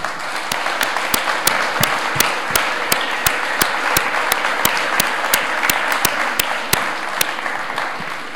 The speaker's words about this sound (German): Machen wir mal den Start mit dem Team der gotischen Systemquäler. Bitte schön auf die Bühne und einen großen Applaus.